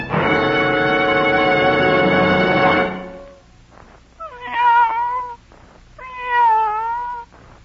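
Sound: cat meowing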